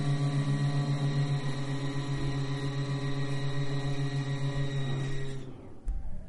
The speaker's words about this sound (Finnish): Ilmastointi meni pois päältä